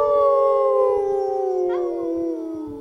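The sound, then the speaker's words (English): Several voices join in a loud, sustained wolf-like howl, their layered tones drawn out and slowly sliding downward for nearly three seconds, without any talking. “So, should we all howl”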